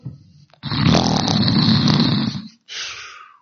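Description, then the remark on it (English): A person makes an exaggerated imitation of a loud snore, a long rattling inhale followed by a shorter breathy exhale, imitating the biblical Jonah snoring down the bottom of the boat. “He's down the bottom of the boat snoring”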